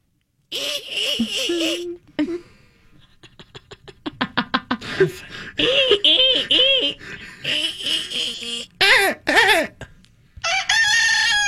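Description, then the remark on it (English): A voice mimics a rooster's crow, several loud, high-pitched crowing calls with rising and falling tones, broken up by a burst of quick, pulsing laughter-like sounds in the middle. “That's a cock. Yeah, do a rooster.”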